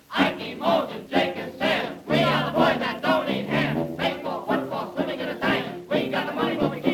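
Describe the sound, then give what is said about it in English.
A group of voices shouts a rhythmic cheer in unison, loud chanted bursts rising and falling steadily for several seconds with short breaks between phrases. “Now, here is a cheer that has plenty heart, so give him everything you've got.”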